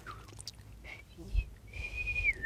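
A person whistles with their lips in an advanced whistling style: a few short notes, then a longer steady high tone that slides down at the end, fairly soft with breathy air and faint background rumble.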